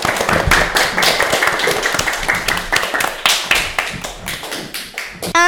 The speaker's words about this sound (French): Bravo, on peut applaudir. Bravo.